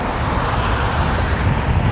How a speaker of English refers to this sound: And then headed for the only intersection that I need to cross, which is Warden Ave. You hear the cars on my left.